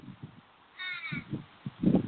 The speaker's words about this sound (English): There's a bird that is accompanying me that you may hear.